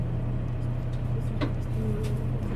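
Steady low engine drone and road rumble fill the space inside a moving bus, with a brief rattle or squeak in the middle and no clear talking.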